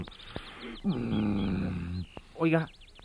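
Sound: bird singing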